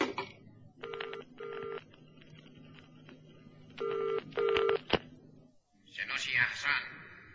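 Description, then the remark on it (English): A direct telephone line to a train, played through an amplifier, rings with two double-pulse trills over a low hum, then a click as it connects, followed by a crackly, distorted burst like a faint voice coming through. “You got a phone link with the train yet? Yes, direct line, sir, on number 5.”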